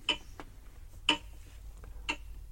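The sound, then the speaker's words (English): A clock ticks steadily with crisp clicks about once a second, alternating louder and softer beats, over a faint low background hum and no voices. “Oh, he must have been next to his clock.”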